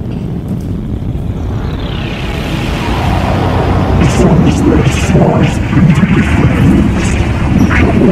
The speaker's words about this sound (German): Ey, dann spiele ich halt ein großes Unwetter und mache eure gesamte Burg kaputt.